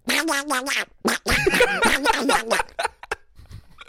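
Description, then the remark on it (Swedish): A voice does a raspy, nasal impression of the cartoon duck Kalle Anka (Donald Duck), a mouth sound effect, in a quick burst of loud, squawky, garbled syllables, then trails off into a few short breathy fragments. “När jag var liten fick jag ofta höra att jag var bra på att låta som Kalanka.”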